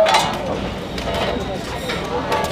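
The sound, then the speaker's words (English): A steady mechanical rumble of a computer-controlled machine bending and cutting metal for an LED line character. A few sharp metallic clinks and scrapes break through at irregular moments, while indistinct voices murmur underneath. “It starts bending and cutting the metal that will eventually be turned into an LED line character.”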